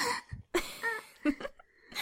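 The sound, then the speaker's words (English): A woman gasps several times in quick succession, short breathy intakes with a few higher voiced catches, separated by brief pauses and without any speech. “You need to know how prettily she gasps if you kiss her.”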